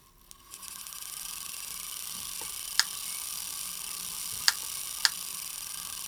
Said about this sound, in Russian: Сейчас вы слышите, как работает электрофорная машина. Это такое устройство, которое прямо у нас в комнате может создавать маленькие настоящие молнии.